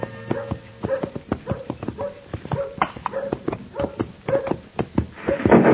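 horse hooves approaching

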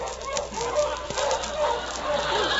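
dogs barking

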